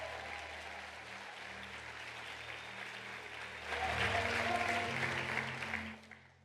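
A church audience claps steadily during a praise night in 2024 in a dense wash of applause that swells louder around the midpoint, with a low musical hum underneath, then fades at the end.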